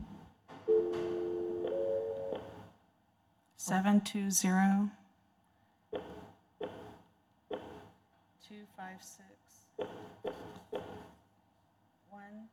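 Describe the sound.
An outgoing phone call from a Congressional Affairs Committee meeting rings out over a speakerphone, with a steady electronic ringback tone near the start, followed by several short bursts of muffled talk and tones.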